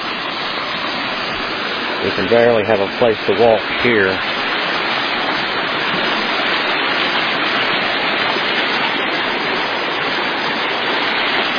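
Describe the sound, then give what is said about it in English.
A steady, loud rush of a creek about 35 feet wide pours over rocks, coming down in four splits, a broad continuous roar filling the whole stretch, with a man briefly speaking over it near the start. “And the creek has become very wide here.”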